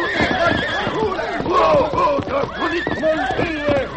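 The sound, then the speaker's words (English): Several frightened horses whinny and neigh in shrill, overlapping bursts, loud, with faint hoof clatter beneath, as Silver, the Lone Ranger's white stallion, snorts and rears on his hind legs on a trail and the other horses jump and buck. “He reared to his hind legs. The other horses, frightened, jumped and bucked.”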